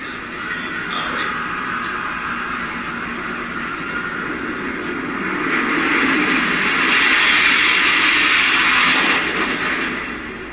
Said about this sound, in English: The second plane hits the South Tower between the 78th and 82nd floors at 9:03 a.m.